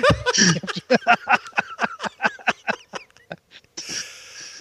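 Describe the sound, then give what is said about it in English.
A person imitates a horse sneeze: a sharp, breathy burst followed by a rapid, fluttering lip-trill that slows and fades, ending in a soft exhale. Fairly loud, with no talk. “every so often you have to throw a horse sneeze in there.”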